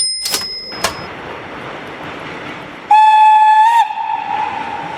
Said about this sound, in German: Und jetzt sitzen wir im Zug nach Hamburg. Ja, und zwar in einem ganz besonderen Zug. Wir sind nämlich eingeladen worden zu einer Probefahrt. Ja, am 19. Dezember 1932, das ist das Datum.